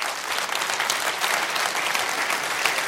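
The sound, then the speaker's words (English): A crowd at a pastors' conference applauds the bivocational pastors standing up, many hands clapping together in a dense, even patter that stays loud for the whole few seconds with no voices standing out. “I want you guys to know that it's so cool everybody clapped for you because they just stole all your crowns and now you got to start all over.”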